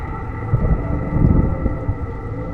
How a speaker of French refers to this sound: Pour les orages d'été. Regarde dehors, c'est étrange.